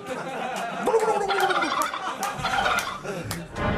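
A turkey gobbles loudly, a rapid burbling warble that repeats in bursts for a few seconds with little else around it.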